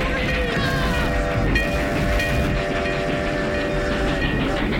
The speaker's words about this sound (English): As the train reaches the middle of the bridge, Chris and Teddy get to the other side, jump off the tracks, and turn around.